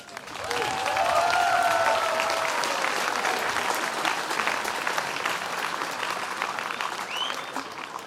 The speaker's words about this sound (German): Applaus